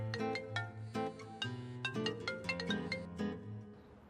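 A phone's melodic ringtone plays on and on without being picked up, a bright repeating tune of chiming notes at moderate volume with no voices.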